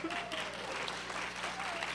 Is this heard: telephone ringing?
no